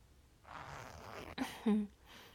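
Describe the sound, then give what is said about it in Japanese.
A trouser zipper is drawn down in one smooth, raspy pull, fairly quiet, with a small click partway through and a soft rustle of fabric at the end. “チャック下ろしちゃうか。”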